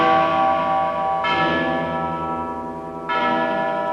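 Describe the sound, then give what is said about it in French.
A large, deep bell of Notre-Dame cathedral in Paris tolls loudly, struck twice about two seconds apart, each stroke blooming into a rich, long-humming resonance that overlaps the previous one's fading ring. “Cloche de Notre-Dame à Paris, qui sonnait les glas et les carillons, qui sonnait la joie et la peine.”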